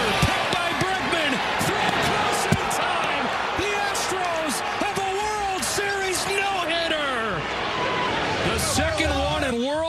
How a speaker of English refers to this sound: Bouncing ball.